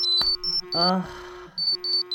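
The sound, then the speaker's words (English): Several phones ring and vibrate with the same electronic ringtone, which the group designed and shared and which means Zordon is contacting them: quick, high-pitched beeps in repeating bursts over a steady lower hum. A brief vocal sound cuts in partway through. “The group wakes in a varied order and in varied states of grogginess as their phones ring and vibrate with the ringtone they had all designed and shared.”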